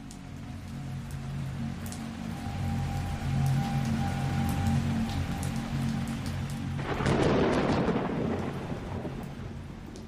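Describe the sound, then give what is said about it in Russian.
A heavy spring rain downpour hisses steadily over a deep low rumble, swelling into a louder, denser rush of water near the end. No voices are heard. “«Клятый дождь!» — подумал Бадвард, одернув капюшон до самых глаз. Весенний ливень не сделал чумной лес лучше.”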